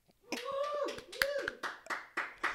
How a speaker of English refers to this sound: Clap if you have a job.